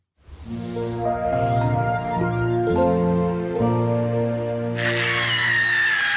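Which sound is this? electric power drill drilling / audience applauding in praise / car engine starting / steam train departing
electric power drill drilling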